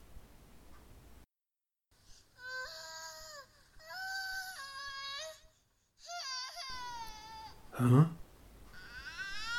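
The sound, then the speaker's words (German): A baby cries at night, the sound coming from a hut or stable, in a series of drawn-out, wavering wails with short pauses between them, clear, rising into a louder burst near the end. No one speaks. “Das ist doch ganz deutlich ein kleines Kind, ein Baby.”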